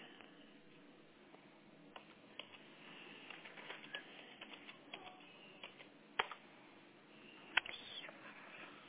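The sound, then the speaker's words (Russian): Steady typing in English on a computer keyboard, a run of quick, uneven key clicks with a few louder taps, fairly quiet, with no voices. “Счастливо, что я опять это печатаю на английском.”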